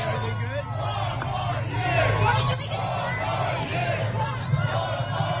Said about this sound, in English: It sounds like the crowd that was out here.